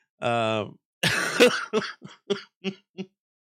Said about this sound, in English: You're making me laugh so much that I'm coughing.